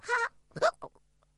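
A couple of abrupt, voiced hiccups close to the listener, each a short gulping burst. Fainter catches of breath separate them, with a final sharp onset right at the end.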